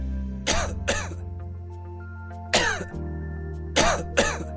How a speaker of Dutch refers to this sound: Keelpijn, droge hoest, Activox verzacht de keel en helpt de irritatie te kalmeren vanaf de eerste prikkel.